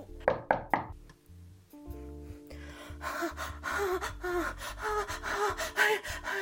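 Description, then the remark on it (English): Three quick, sharp knocks on a door come in a rapid burst near the start, loud, then give way to a steady, busy tonal background with no more knocking. “Kill whoever's knocking.”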